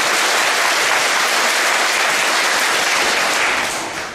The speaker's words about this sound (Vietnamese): Xin đại chúng cho một tràng pháo tay thật lớn.